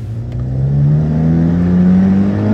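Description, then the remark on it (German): A car engine revs loudly and accelerates, its steady droning pitch climbing gradually over a few seconds, continuous with no voices. “fahr langsam. Langsam? Habt ihr etwa Angst?”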